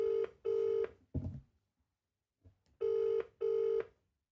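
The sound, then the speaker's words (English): A phone line rings on an outgoing call with a steady double-pulse tone, two bursts, a pause, then two more, with a brief muffled clunk in between; clear, no voices. “I think you need to get the Godfather on the phone and tell him something that's going to blow his mind.”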